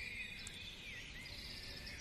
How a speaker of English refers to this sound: Oh, danke, liebe Grille, dass ich dich gerade hören kann. Thank you, dear Cricket, that I can hear you right now.